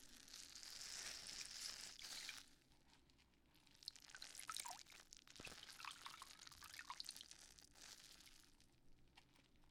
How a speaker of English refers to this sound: Alright, now I'm just going to come in with some water and our scrubber.